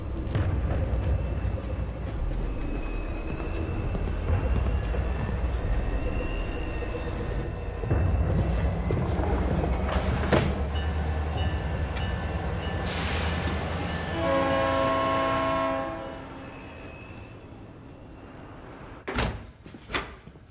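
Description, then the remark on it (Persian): A train pulls out with a steady heavy rumble and a rising mechanical whine, then sounds one long, loud horn blast. A couple of sharp clunks follow near the end. No one speaks. “قطار داره میره.”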